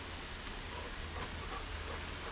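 Water sprays steadily from a hose fitted with a sprinkler pad, squirted up into the air in hot weather for a dog to catch, a soft continuous hiss with light patter like droplets falling around, fairly quiet, with no one speaking.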